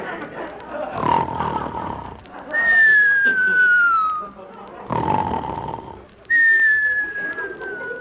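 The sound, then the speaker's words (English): A loud, raspy snore on the inhale followed by a long, high whistle sliding downward on the exhale, repeated twice in a steady, comic sleeping rhythm, prominent. “Whistles tonight.”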